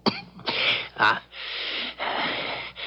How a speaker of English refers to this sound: That cough of yours, sir, is that the reason you bid me here? Yes. And no.